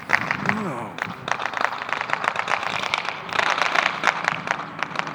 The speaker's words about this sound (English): Fireworks going off in a yard behind me.